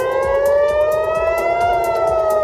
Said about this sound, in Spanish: Y es que ha sido una madrugada de continuo sonido de sirenas.